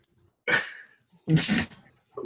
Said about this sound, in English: keeps coughing. I can't hear a word he's saying over there.